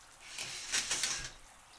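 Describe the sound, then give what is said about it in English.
A shower runs steadily with a soft, hissing spray, a few slightly louder splashes rising briefly midway before settling back. Fairly quiet, with no voices. “The shower is so nice, babe.”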